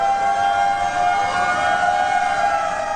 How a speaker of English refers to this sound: Sirens wailed as San Francisco marked the 100th anniversary of the 1906 earthquake today.